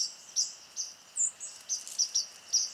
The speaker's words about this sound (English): You know, I'm walking through a park on my way to the gym. I am not looking or paying attention to birds, except I am, because I always am. And my ears are telling me, oh, the white-throated sparrows are back, just from hearing their call notes.